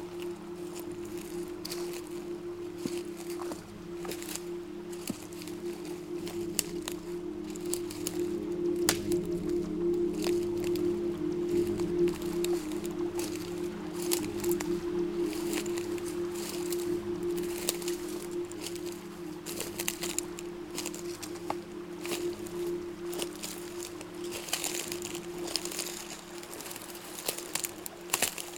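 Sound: small stream flowing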